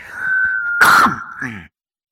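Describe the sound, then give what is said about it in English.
A single short, harsh cough bursts out, fairly loud and over in a fraction of a second, with a thin steady tone humming around it. “That wasn't a sneeze, that was a cough.”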